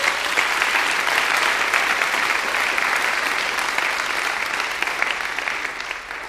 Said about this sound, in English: Let's give them applause as well.